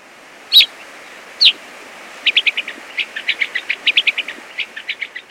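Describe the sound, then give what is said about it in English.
Gray-crowned rosy finch calls: two sharp separate chirps, then a rapid series of short buzzy chip notes in quick rhythm, clear over a soft hiss, no voices. “Once again, the calls of gray-crowned rosy finches.”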